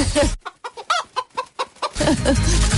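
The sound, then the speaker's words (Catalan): A rooster calls in a quick run of about eight short, sharp, loud bursts, with a rushing, noisy background just before and after. “Un gall.”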